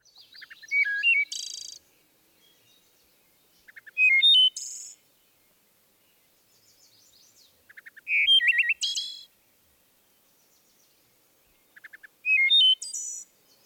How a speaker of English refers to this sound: The wood thrush, in fact several of the thrushes, are known for their flute-like songs.